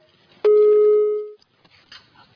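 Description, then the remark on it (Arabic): A single loud, steady telephone line tone from an incoming phone call from Saudi Arabia sounds for about a second and cuts off, followed by faint, scattered background noise. “طيب معنا تليفون اخر. السلام عليكم. معنا تليفون من السعوديه.”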